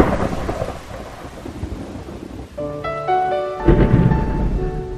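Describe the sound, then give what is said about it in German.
Rolling stage thunder rumbles over steady rain, a loud storm at the opening of a film, moving along a Paris avenue toward a small theatre; about halfway through, sustained orchestral music swells in over it, with another heavy thunder crash near the end. “Mit Theaterdonner und einem Kameraflug durch eine Pariser Allee fängt der Film an. Mitten im Gewittersturm bewegen wir uns auf ein kleines Theater zu.”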